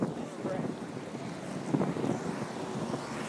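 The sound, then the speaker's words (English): Steady wind rumbles and buffets against a microphone outdoors on a windy day, a broad continuous roar with occasional gusts, fairly loud, with no voices present. “It's windy.”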